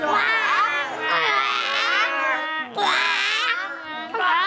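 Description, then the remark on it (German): Several children's voices overlap in a loud, continuous chorus imitating croaking frogs, high and wavering, with a brief dip midway before the noisy quacking resumes. “Spürnasen, könntet ihr mal ein kleines Froschkonzert anstimmen?”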